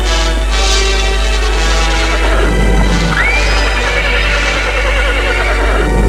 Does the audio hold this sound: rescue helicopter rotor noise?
no